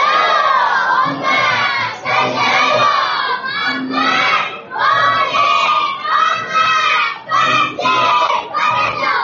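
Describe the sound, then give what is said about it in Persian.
A large crowd chants the salawat blessing loudly in unison at a religious gathering on the seventh night of Muharram, voices rising and falling in repeated rhythmic phrases with brief dips between them, for several seconds. “دوستانی که آماده جلسه هستن یه صلواتی بفرستن.”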